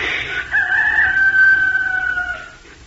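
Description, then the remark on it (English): A person imitates a rooster's crow: one long, loud, strained cock-a-doodle-doo held for about two seconds after a brief breathy onset, with no talking. “But just inside the window where the rooster slept in his bed, you would have heard him take a deep breath and crow like this.”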